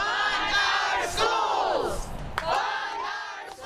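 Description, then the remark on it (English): A crowd of educators from the Wake County Association of Educators rallying on the lawn outside a county meeting in Raleigh, raising loud, sustained chants and cheers in swelling waves, with a few sharp shouts cutting through the steady roar of many voices. “On the lawn outside one of those meetings in Raleigh last week, members of the Wake County Association of Educators rallied.”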